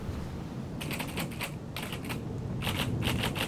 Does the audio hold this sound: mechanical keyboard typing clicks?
yes